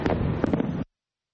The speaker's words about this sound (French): Cette fois-ci, nous sommes venus pour voir les feux d'artifice du 4 juillet. Et les feux d'artifice de l'Independence Day, c'est l'un des plus beaux spectacles à voir dans le ciel de Washington.